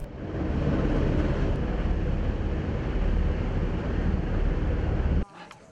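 A loud, steady roar of a helicopter overhead carrying a suspended cage of sedated bears to safety from a flood, a dense rumbling wash of engine and rotor noise mixed with wind buffeting, cutting off abruptly near the end.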